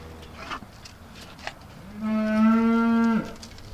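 A single loud, drawn-out cow moo rises at mid-clip and holds steady for about a second before breaking off, preceded by faint outdoor clatter and rustling.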